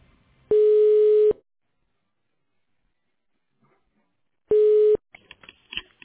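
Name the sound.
telephone ringing tone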